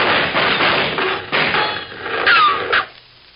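A rapid, irregular volley of gunshots from Murderer's Gulch in a Red Ryder radio drama, a cluster of sharp cracks with dull thuds between them and a brief descending whine near the end, before the noise drops away to quiet.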